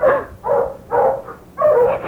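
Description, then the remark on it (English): Dogs barking in four loud, evenly spaced bursts, each a drawn-out bark or bay, with no talking over them; a whole gang of men with dogs is headed this way. “It's a whole gang of men with dogs. And they're headed this way.”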